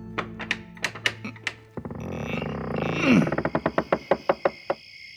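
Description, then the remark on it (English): A trap door mechanism at the end of a tunnel in a maze: a few hollow thunks, then a grinding rumble with a brief rising creak, ending in a quick, evenly spaced run of knocks that fades out. “Oh, yep, there it is. The trap door.”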